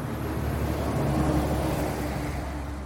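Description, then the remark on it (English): A truck engine rumbles steadily and fairly loud throughout as it jostles down a bumpy dirt road to Strawberry Land, with a deep low drone and broad road noise, with no talking. “Perry slammed the truck door and stepped on the gas, and they jostled down the bumpy dirt road to Strawberry Land.”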